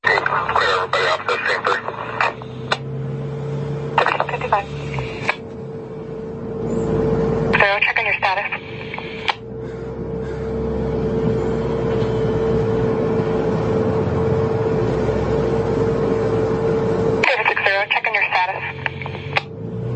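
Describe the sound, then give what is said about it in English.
Ham radio transmission on the emergency frequency in Oregon: a compressed, band-limited voice crackles through static with a steady hum, reporting a car throwing Molotov cocktails, broken by squelch bursts and brief tone-like clicks as the channel keys on and off. “This is a ham radio. It's somebody's listening in to the emergency frequency in Oregon.”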